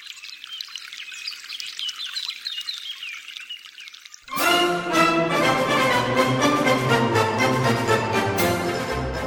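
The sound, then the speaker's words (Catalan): Birds chirp alone for a few seconds, then water from the Font de la Glava spring fountain suddenly starts pouring and splashing loudly and steadily, drowning out the birdsong until the end. “Ara anem a la Font de la Glava. Bebeu aigua fresca, que queda un bon tros de pujada per arribar a Sant Antoni.”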